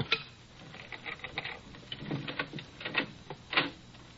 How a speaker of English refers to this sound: Cutting off a pane of glass.